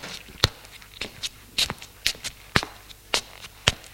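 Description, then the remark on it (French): Steady footsteps of a woman walk along a house corridor after she closes the front door, about eight crisp, sharp steps at an even pace of roughly two per second, with faint background hiss between them and no voices. “Après avoir refermé la porte derrière elle, elle suit le couloir.”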